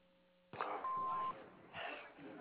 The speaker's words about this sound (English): Just leave a message after the beep.